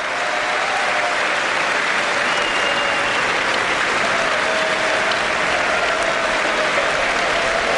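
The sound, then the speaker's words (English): Sustained, loud applause from a large standing audience in Congress, a dense, steady wash of clapping that continues without pause for several seconds, with no voices standing out. “Long applause.”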